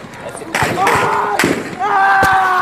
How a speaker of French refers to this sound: Sur ces images amateurs tournées sur le lieu du sit-in à Khartoum, les forces soudanaises avancent vers la foule. Soudain, les manifestants se mettent à courir, visiblement effrayés. La confusion règne, puis des coups de feu retentissent.